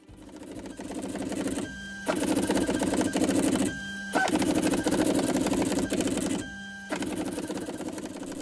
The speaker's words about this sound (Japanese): 何か音が聞こえてきましたね。これ点字プリンターが印刷をしている音なんです。